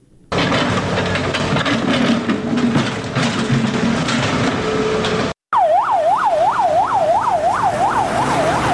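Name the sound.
ambulance siren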